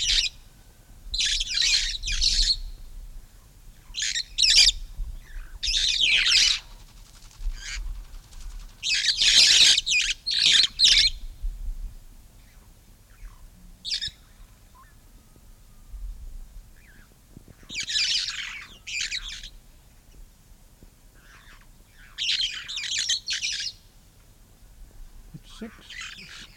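Harsh, shrill call notes of Maasai red-fronted parrots burst out in irregular clusters of short screeches, loud, with brief pauses between bouts and no talking; recorded in the morning at Molo in the western Kenya highlands, 8,000 feet, February 1956, as the birds fly in to a podocarpus tree beside water tanks.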